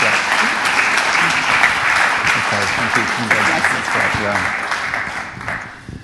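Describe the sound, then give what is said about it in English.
Sustained audience applause for a grandmother who has just spoken fills the room, a dense wash of clapping that stays loud and steady for several seconds, with faint voices mixed in before it tapers slightly at the end. “Let's give Granny a big round of applause.”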